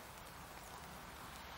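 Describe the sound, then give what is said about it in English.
Soft, steady rainfall at a campsite beside Auschwitz-Birkenau makes a continuous hiss with faint patter throughout, fairly quiet and even, with no voices. “It's hard filming because it's raining.”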